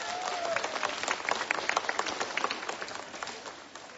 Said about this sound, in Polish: Przywitajmy tych, którzy teraz wchodzą na plac Jasnogórski gorącymi oklaskami. I raz jeszcze siebie przywitajcie gorącymi oklaskami.